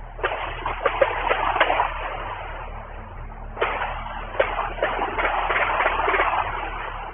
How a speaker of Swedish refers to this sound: Skotten faller klockan 19.40. En övervakningskamera som sitter några hundra meter bort fångar ljudet av skottlossningen.